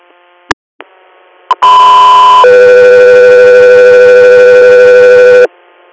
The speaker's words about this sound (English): Guthrie here, standby for tones.